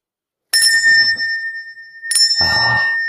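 A bell is struck twice, each strike giving a bright, sustained ringing tone that lingers and slowly decays, with a clatter of handling noise after the second strike.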